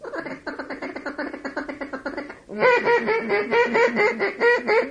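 Dense, continuous quacking from about 10,000 mallard ducks within about 300-400 yards, landed on water among trees, many overlapping calls forming a steady chattering din that grows louder partway through.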